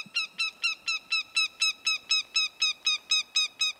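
A northern goshawk gives a rapid, steady series of harsh, nasal cackling notes, about fourteen in a row at an even pace, clear with no other sounds around it.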